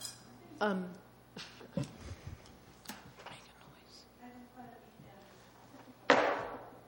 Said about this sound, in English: Chair, please feel free to use your gavel.